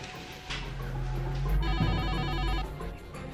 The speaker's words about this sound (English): There's a call coming in on Rossler's phone. We assume it's Erwick.